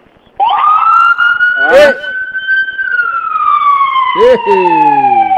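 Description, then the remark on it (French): A loud ambulance siren wails near an embassy with a fire department nearby, its tone sliding slowly up and then gradually down across the whole clip, with a couple of brief noisy bursts breaking through partway. “Waaw fu mu ne nii maa ngi nii ambassade yaa ngi dégg ambulance xam nga ambassade fu mu nekk dafa am benn genre fire department bu fa nekk.”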